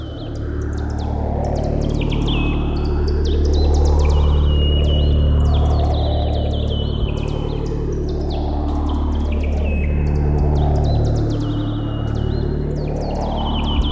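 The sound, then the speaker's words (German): A dense synthesized soundscape made with biofeedback, evoking the Yom Kippur War: helicopter and gunshot sounds mixed with birdsong and bagpipes over a wide synth pad, a steady, droning low hum with slowly pulsing swells and scattered high chirps and tweets, loud and continuous with no voices. “Geräusche von Hubschraubern und Schüssen mischen sich mit Vogelgesang und den Klängen von Dudelsäcken zu einer subtil arrangierten, katastrophenartigen Sinfonie, getragen von einer weiten Synthi-Fläche.”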